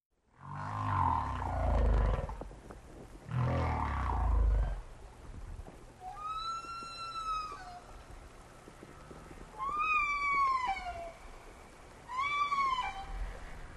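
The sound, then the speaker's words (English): Whale song: deep rumbling groans at first, then three long, wavering moans that swoop up and down in pitch, spaced a few seconds apart, with no one talking. “Songs in the key of whale.”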